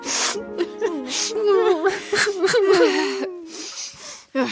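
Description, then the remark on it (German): Wavering sobs and whimpers, someone crying over a sad film with shaky, breaking voice and sharp breathy gasps between the cries, continuing without any clear words. “Aber die Tränen, die wir weinen, sind ja trotzdem echt.”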